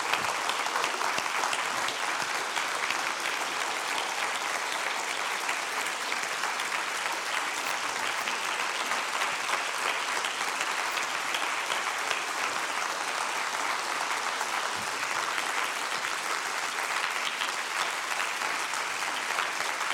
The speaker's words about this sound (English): What I love is that nobody even waits to be invited to clap. You just did it spontaneously. And that's because your heart's filled.